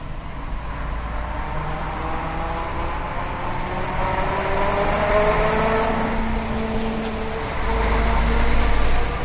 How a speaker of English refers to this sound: That was a German truck. Mercedes, but German plates.